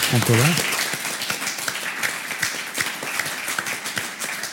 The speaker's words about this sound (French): Eh bien, merci beaucoup. On peut vous applaudir.